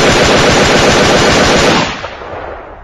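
A long, rapid burst from a submachine gun fired into bushes, nearly emptying a magazine: loud, evenly spaced cracks for nearly two seconds before it stops abruptly and a brief echo fades out.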